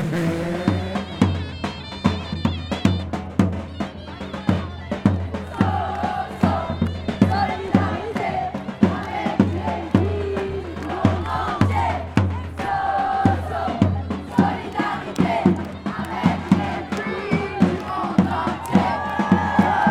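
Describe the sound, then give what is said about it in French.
A large protest crowd chants and shouts continuously for the whole stretch, many voices rising and falling together over steady rhythmic beats and claps, loud and dense throughout. “Et changement de terrain, mais le match se poursuit en manif.”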